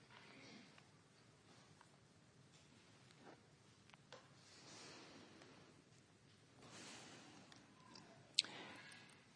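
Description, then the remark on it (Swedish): Quiet rustling of thin Bible pages being turned to Matthew chapter 12, several soft swishes spread out with small clicks and taps, ending in a sharper flick near the end. “Vi ska bläddra nu till Matteus till det 12:e kapitlet.”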